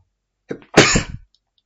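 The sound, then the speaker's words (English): A single loud human sneeze, with a short sharp inhale leading into an explosive burst, then quiet. “Usually I hit the pause button before I sneeze, but this time I didn't get to the pause button in time.”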